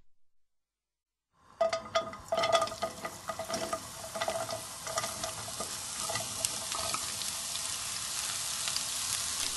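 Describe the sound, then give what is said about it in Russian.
Carrots cut into thin strips hit hot vegetable oil in a frying pan over medium heat with a sudden sizzle, then fry in a steady crackling hiss while a wooden spatula scrapes and stirs them in uneven bursts, with no talking. “Теперь положите в сковороду нарезанную соломкой морковь и деревянной лопаточкой смешайте с растительным маслом.”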